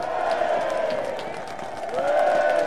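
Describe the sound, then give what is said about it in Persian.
A crowd roars together at a horse race as the horses start running, a sustained wall of many voices that dips briefly in the middle and then swells louder again. “جمعیت اطرافمان یک صدا قرید.”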